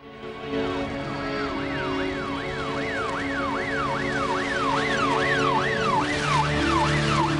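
Sirens of three police cars with flashing lights wail in rapid rising-and-falling sweeps as the cars drive over a field. A second siren joins so several overlap, steady and fairly loud as they draw closer, with no talking.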